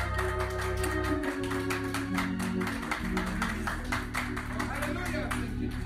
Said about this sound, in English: Come on, clap your hands and give the Lord a hand clap.